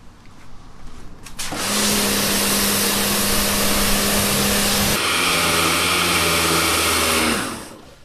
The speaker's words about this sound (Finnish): Nyt me ollaan tässä juteltu hyvän aikaa, niin musta olisi kiva kyllä saada pieni semmoinen pesunäyte, että mitäs tuo homma oikein sujuu, niin pistäisikö sä pesurin laulamaan?